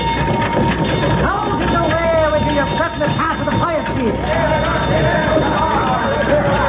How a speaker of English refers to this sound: Well, what do you know? A fire engine. And being pulled by three horses, too. Just like the fancy ones they got in Los Angeles.